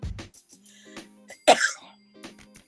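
A person who is sick gives a short, sharp cough midway, fairly loud, with softer throat-clearing sounds and a faint steady hum around it.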